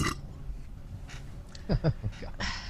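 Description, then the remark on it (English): A loud, guttural belch rumbles for a couple of seconds, with croaky, pitch-shifting bursts in the middle and a breathy hiss trailing off at the end. “I'm making up for the last couple episodes. I haven't really done any belching, so there you go.”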